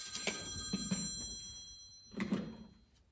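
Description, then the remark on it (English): A telephone bell rings in Joseph's woodwork shop with a bright metallic jangle that sustains throughout, swelling in bursts with a brief lull between rings. It is fairly quiet, with no voices. “He was busy making benches when a phone call made him stop.”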